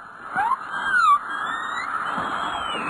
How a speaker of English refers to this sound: I see number 9 is the hum of power lines. Is that what that is? Yeah